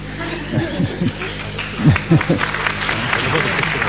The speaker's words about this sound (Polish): Tak, to oklaski oczywiście dla Jarka, nie dla mnie. Dziękuję. W jego imieniu.